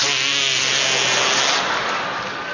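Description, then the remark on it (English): An imitated fart sound made by a person, one continuous raspy, buzzing blurt lasting a couple of seconds, fairly loud and sputtering slightly as it trails off, with no talking. “There were a lot of ways to make the fart sound when you were a kid.”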